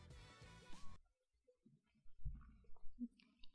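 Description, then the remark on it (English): After a brief burst of music cuts off, faint first sips of freshly opened wine follow: a few soft slurps and wet mouth sounds, quiet and irregular, with no talking. It is a snowy Tuesday night. “Ready for the first sip? Here we go.”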